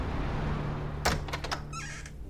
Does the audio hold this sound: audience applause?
no